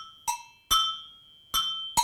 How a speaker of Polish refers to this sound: Pierwszy instrument to jest taki dzwonek, nazywa się agogu.